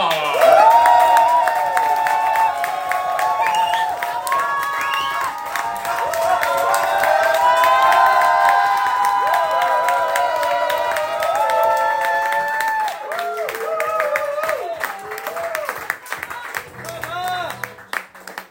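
A live crowd at a goguette evening breaks into sustained applause mixed with cheers and whoops for a performer's first goguette, loud, continuing steadily for about eighteen seconds before thinning toward the end.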